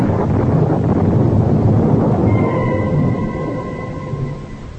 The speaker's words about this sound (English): But again the clouds are gathering and the storm is at my heels.